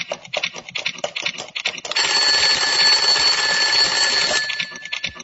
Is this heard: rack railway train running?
no